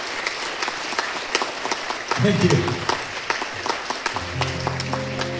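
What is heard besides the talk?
audience applause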